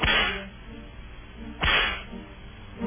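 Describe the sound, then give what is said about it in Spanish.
Sharp whip cracks snap out one after another with pauses in between, loud, each a bright lashing crack with no voices. “Dale los latigazos a Romeo Auerbach.”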